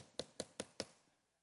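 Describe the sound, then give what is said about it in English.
Four quick, evenly spaced knocks on a wooden pulpit, crisp, each with a short hollow ring, followed by a brief fading silence. No one speaks. “this one knock isn't going to get it. If you want to get to my house door, you got to do this right here.”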